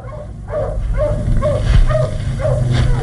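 Wolves bark in a steady series of about six short, yelping calls, evenly spaced over a low, constant rumbling background.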